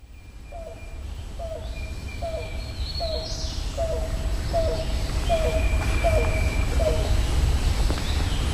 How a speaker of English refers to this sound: And Tyler found zip down to the yellow-billed cuckoo here, and let's see what that sounds like.